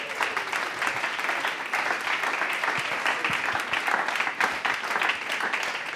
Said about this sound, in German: Begrüßen wir ihn doch mit einem herzlichen Applaus hier bei uns im Bündnerland.